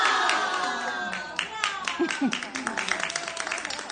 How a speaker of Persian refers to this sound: و حالا به افتکار این فارغ التحصیلان، هپ هپ هورا هیپ هیپ هورا.